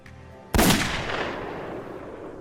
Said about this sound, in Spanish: El arma podía disparar balas calibre 38, las balas usadas en el crimen según los investigadores. Apuntó y disparó.